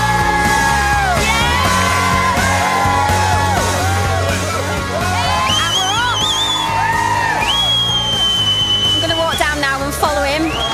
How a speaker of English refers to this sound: Everyone's cheering him. He's actually waving and running at the same time. All the kids are running after him as well.